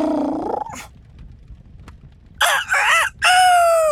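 After a brief cry and a quiet pause, a rooster crows loudly and close by, a long cock-a-doodle-doo broken into several strained, rising and falling parts.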